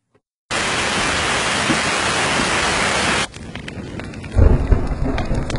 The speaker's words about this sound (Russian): На улице дождь.